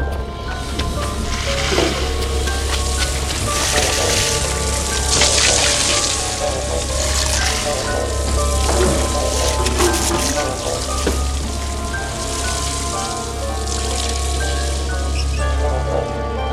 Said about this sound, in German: Holt die Schläuche! Feuer! Der Wasserhydrant! Schnell! Schließt die Schläuche an! Beeilt euch! Schneller, schneller! Der Wasserhydrant! Der muss sofort löschen! Schließt die Schläuche an, den Hydrant! Schnell! Jetzt! Wasser, marsch!